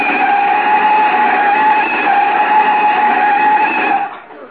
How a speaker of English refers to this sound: Rochester! Don't look at me. Mr. Benny stepped on the brakes. From the back seat yet.